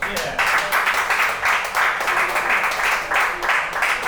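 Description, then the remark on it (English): A crowd applauds pianist Michael Cochran, a dense wash of many hands clapping at a fairly loud, even level, swelling slightly in waves throughout. “How about a nice round of applause for Michael Cochran on piano?”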